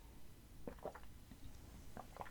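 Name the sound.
person drinking water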